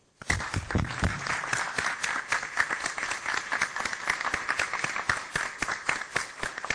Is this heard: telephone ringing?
no